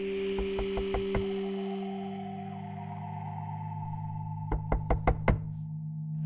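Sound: knocking on a door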